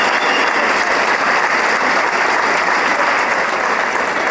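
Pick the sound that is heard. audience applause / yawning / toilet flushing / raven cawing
audience applause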